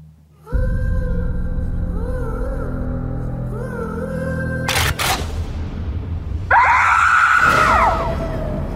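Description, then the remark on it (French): Loud, shrill screaming erupts near the end, preceded by a tense droning score and two sharp cracking hits, like a dramatic horror movie trailer. “Ah ouais, ça crie, hein, les intrus.”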